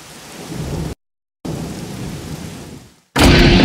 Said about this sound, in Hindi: Hello, वो actually मेरी गाड़ी ख़राब हो गई है और बारिश भी बहुत हो रही है।